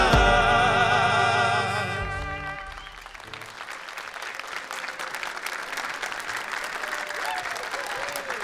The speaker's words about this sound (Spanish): Aplauso para los bailarines. Un poquito más fuerte para nosotros. Claro que sí, estos aplausos son muy merecidos, tanto para los músicos y, es verdad, para los bailarines.